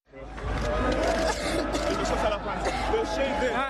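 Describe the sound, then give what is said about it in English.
Several protesters cough after police fired tear gas during a violent protest against a municipality near Johannesburg, South Africa, harsh bursts overlapping with murmuring voices and general commotion outdoors. “People cough after police tear gassed them during a violent protest against an ANC municipality near Johannesburg.”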